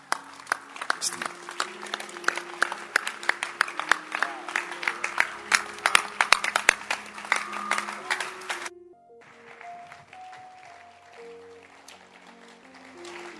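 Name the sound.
audience clapping hands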